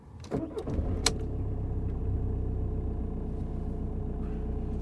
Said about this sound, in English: Here, let's turn the car on and get some air back here.